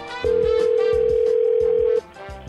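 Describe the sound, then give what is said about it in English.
A single steady telephone ring tone holds for nearly two seconds, loud and clear, over a faint rhythmic music bed, then cuts off abruptly, as a call is placed to a random phone number. “So what we do is we dial a random phone number and try to carry on a conversation using only those clips.”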